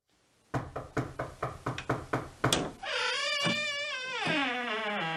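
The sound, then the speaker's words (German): A rapid series of about nine loud knocks on the door of detective Sherlock Holmes's office, followed by a long, wavering creak as the door swings open. “Ist das so schwierig, eine Tür für einen Freund zu öffnen?”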